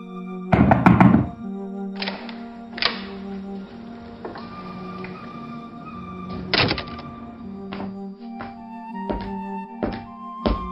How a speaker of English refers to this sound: especially considering you nearly knocked down my office door.